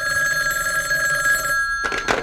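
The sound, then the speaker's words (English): A bedside telephone in a 14th-floor apartment in Midland City rings loudly and steadily at night for about a second and a half, then breaks off, followed by a brief burst of higher metallic jangling. “is awakened by the urgent ringing of her bedside telephone.”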